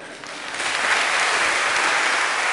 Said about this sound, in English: At the end of the sermon, they all stood up and applauded. It felt very miraculous and wonderful in that moment.